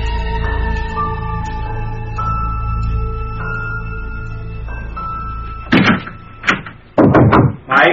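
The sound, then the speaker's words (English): Several loud bursts of knocking on a locked door come in quick clusters near the end, following a steady, melodic electronic tone that plays alone beforehand. “Come on, open up. Why is this door locked? Come on, open the door.”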